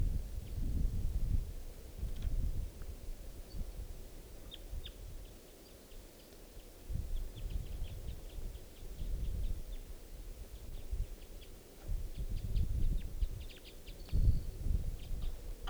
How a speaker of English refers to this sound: Start recording now. It's 10:11 a.m. and there's a wild bird perched in the trees above the net side. Wild.